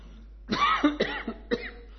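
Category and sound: human body sound, coughing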